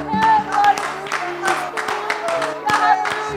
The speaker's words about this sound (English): He is worthy of that praise. Can we just unison give God a hand clap of praise?